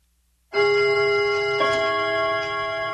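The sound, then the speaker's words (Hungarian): A Dankó Rádió time signal marking 15:00 sounds: after a brief silence, a loud, steady, ringing tone starts abruptly and holds, bright with overtones, with a slight renewed strike partway through. No one speaks. “A pontos idő 15 óra.”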